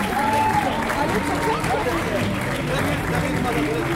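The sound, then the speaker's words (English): A dense, steady crowd roar of cheering and clapping from shoppers in Paris as a store's black steel doors are pulled open at noon for its opening, with excited voices shouting over one another throughout. “Paris's mayor Anne Hidalgo, flanked by the Crown Princess of Denmark, is here to cut the inaugural ribbon before the crowds push forward to get inside.”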